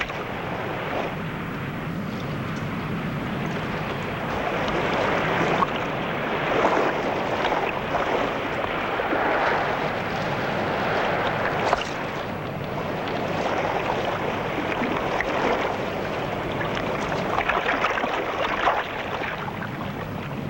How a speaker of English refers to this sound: Leaving the raft, the boat heads for the ship.